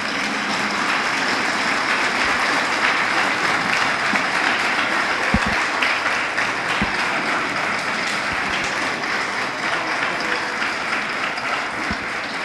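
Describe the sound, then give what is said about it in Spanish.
Sustained applause from a standing audience for the governorate's team, a dense, steady wash of many hands clapping at even loudness throughout, with a few sharper individual claps standing out and no voices on top. “Y esa realidad es gracias a una sola cosa, que yo sí quiero que por favor se pongan de pie y me le den un cipote aplauso a nuestro equipo de la gobernación.”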